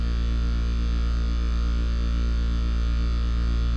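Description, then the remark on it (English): A steady, buzzy synth drone run through a static effect with a pitch shifter, the wet signal shifted down one octave and mixed lightly with the dry for a growl, holding one dense low tone with a faint shimmer on top, loud and unchanging for several seconds with no voices. “But Ray Pitch actually became part of the static effect. So I'm going to activate this now.”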